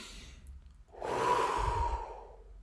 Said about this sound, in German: Dann wartet man kurz und dann denkt man, atmet man tief durch.